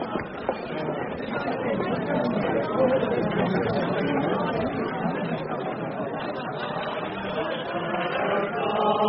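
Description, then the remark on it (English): Steady happy crowd chatter fills the whole stretch, many overlapping voices murmuring and talking at once at an even, moderately loud level, with no single speaker standing out. “I was just thinking how nice it is to be in a happy crowd.”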